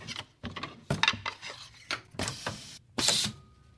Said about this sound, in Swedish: du sitter här vid en borstbindningsapparat. Vi hör hur den pyser lite grann. Ja. Och du med en väldig fart så snurrar ihop den här borsten.